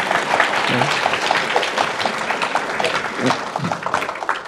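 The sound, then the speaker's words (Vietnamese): A crowd claps steadily for several seconds, a dense, even patter of many hands, with a few faint voices briefly rising underneath. “Mình cũng cho một tràng pháo tay.”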